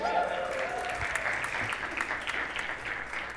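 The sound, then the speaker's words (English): An audience applauds in a steady, dense wash of clapping that holds at an even level throughout, with a brief murmur of voices at the start. “And this is not another begging for applause, but incidentally, this week, the bank did finally clear that out, so officially, we are debt-free.”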